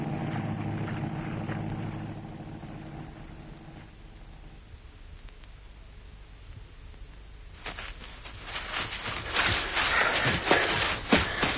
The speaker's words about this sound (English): Shh, listen. It's the boat.